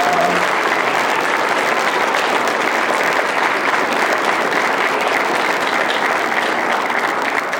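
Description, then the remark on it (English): A crowd applauds steadily, with a dense, even wash of clapping holding at a constant loud level for the whole stretch and no voices standing out. “I don't think anybody had a chance to clap for him.”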